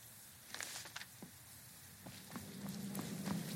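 In the video game Skyrim, footsteps climb a flight of stairs and head out a black door in a quick, uneven series of soft thuds and taps. After a pause come a few more steps over a low, steady rumble.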